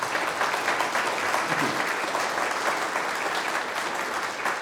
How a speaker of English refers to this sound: And as we're clapping, can we do so again to affirm the amazing chaplaincy team who are there day by day in the hospital caring for those in need?